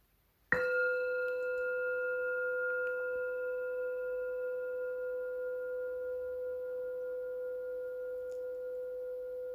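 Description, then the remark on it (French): A small meditation bell is struck once to announce the start of a meditation, giving a clear, bright tone with steady harmonic overtones that rings on and slowly fades over several seconds, with no voices. “Le son d'une petite cloche va annoncer le début et préviendra de la fin de cette méditation.”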